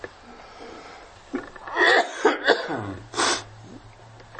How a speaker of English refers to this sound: I really am getting better. My apologies for coughing.